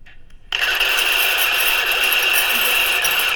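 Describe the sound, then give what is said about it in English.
After a brief near-silent moment, keys start jingling together in a dense, steady metallic shimmer, bright and high-pitched, continuing evenly at a constant loudness with no one talking. “There are all kinds of sounds that you can't hear that the keys make when they bang together.”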